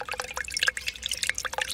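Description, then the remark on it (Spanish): Water runs and splashes in quick, uneven bursts, with bright dripping and trickling sounds, as hands scoop water from a running tap to wash a face first thing in the day. No voices. “Lo primero que hago es ir a lavarme la cara.”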